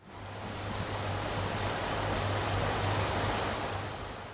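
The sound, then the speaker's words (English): An air conditioning system in the dressing room of the Amadou Ahidjo Stadium, under renovation in Yaoundé, Cameroon, roars with a steady, even hiss across the whole range, underpinned by a constant low hum. The noise stays level throughout, with no voices or other sounds. “Noise from an air conditioning system welcomes me to the dressing room of the Amadou Ahidjo Stadium under renovation in Cameroon's capital, Yaoundé.”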